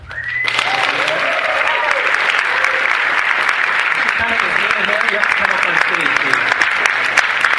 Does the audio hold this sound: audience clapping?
yes